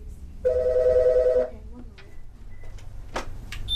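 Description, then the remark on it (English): A single electronic telephone ring on a suicide prevention and crisis hotline, a steady warbling tone lasting about a second, sounds clearly against a low hum, followed by faint clicks and small indoor noises. “Those hotline calls come in from 32 counties around Northern and Central California, including from emergency phones strategically stationed on bridges for people who may be thinking about jumping.”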